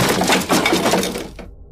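A heavy stack of wooden coffins tips over and crashes to the ground in a loud, clattering burst of thuds and cracks lasting about a second, then cuts off abruptly. No voices.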